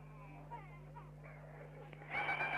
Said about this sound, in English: Now, another pig is being taken by one man alone, and all the pigs grunt and groan and shriek now because there is a mass slaughter being performed on them. Knives are all being stuck into the heart, between the forelegs, a little bit further behind.